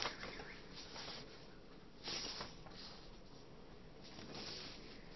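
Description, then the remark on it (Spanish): Soft rustling of mixed-up paper sheets being shuffled and handled while searching for a passage in Timothy, with a couple of brief louder crinkly bursts amid a steady, quiet papery noise and no talking. “Que con mis hojas todo mezclada.”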